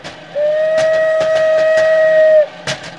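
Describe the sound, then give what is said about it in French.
A steady, high whistle imitating a train whistle holds one pitch for about two seconds over a quick rhythmic clattering like wheels on rails, ending with a sharp click. “Je fais le roulement. Là, je peux faire le sifflet.”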